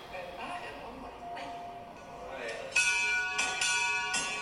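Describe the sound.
A handheld bell rings out several times in quick succession to mark the end of a patient's treatment, bright metallic tones that linger and overlap, following a quieter stretch of background voices and murmuring.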